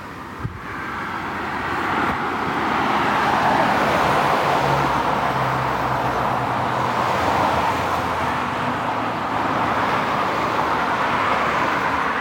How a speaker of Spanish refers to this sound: Parece que van todos los coches ahora mismo en cuarta. No, sí. Ahora mismo ya. Van con la marcha floja.